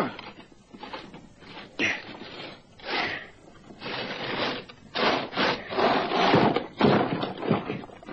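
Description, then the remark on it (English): A heavy solid steel trapdoor set in the middle of a concrete slab about 30 by 30 feet is hauled open in a series of loud, grinding scrapes and dull thuds, coming in uneven bursts with brief pauses between them. “Have you ever seen a door like this, sir? It's solid steel.”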